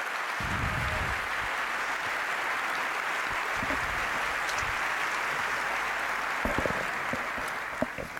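Steady, dense applause from a large audience fills the whole stretch, a continuous wash of clapping at an even level with a few sharper individual claps near the end.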